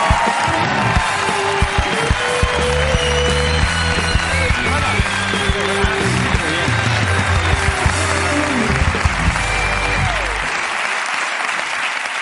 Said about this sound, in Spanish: Un aplauso para Javier Fernández de la Resistencia.